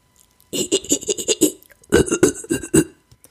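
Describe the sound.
A person imitates a chimpanzee laugh: a quick run of about eight panting, voiced bursts made with a wide mouth opening, a short pause, then a second run of five or six fuller, rounder bursts made with rounded lips, fairly loud.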